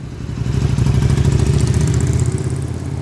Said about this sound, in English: Cars are lining up on both sides of the bridge to wait. This intersection just across the Connecticut River, where Hinsdale, New Hampshire meets Brattleboro, Vermont, is commonly known as Malfunction Junction.